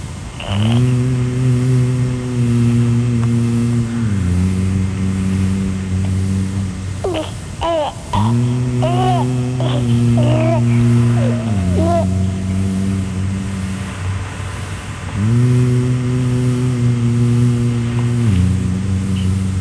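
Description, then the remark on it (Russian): The electric motor of a remote-controlled toy car, received as a fifth-birthday gift and driven to a zoo, whines steadily, its pitch stepping up and down as it revs, with squealing chirps breaking in midway. “Я иду в зоопарк, радиоуправляемую машину получил я в дар к дверям зоопарка. Несусь я стрелой.”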